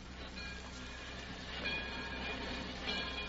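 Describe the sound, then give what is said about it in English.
A train rumbles steadily with broad, hissing mechanical noise, a few thin high tones and squeals rising briefly over the churning sound as it gets under way. No voices are heard. “3 years later, I put him on the train to go home.”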